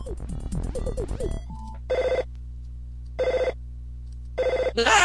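A telephone rings three times in short, evenly spaced bursts with quiet pauses between, coming right after a brief busy jingle of tones. No one speaks.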